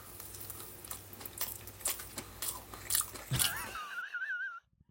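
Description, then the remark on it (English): Loud chewing by a man of crunchy fried KFC food, with irregular wet crunches and bites over a low background hum, ending in a brief high, wavering whine before sudden quiet. “So obnoxious the way he chews.”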